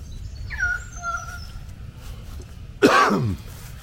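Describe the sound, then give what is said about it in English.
One harsh, lingering cough bursts out near the end, preceded by a few faint bird whistles over a low outdoor rumble. No one speaks. “Excuse me, a bit of a cough still, as you can hear.”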